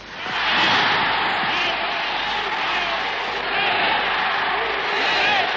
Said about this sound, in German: Das war ein Jubel, eine Begeisterung. Wir sind gestanden am Hödenplatz, am Ring. Unübersehbar war mir. Man hat gefühlt, man ist unter sich. Und es war wie bei einem Hering. War wie ein riesiger Hering, aber feierlich, ein Taumel.